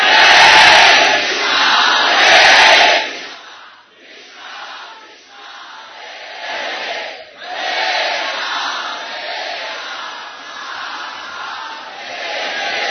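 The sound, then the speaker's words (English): A large crowd of about 3,500 devotees chants loudly in unison, a dense roar of many voices that swells, briefly dips around the middle, then surges back and holds steady to the end. “All you 3,500 devotees together are not even close to the volume of one of those little children.”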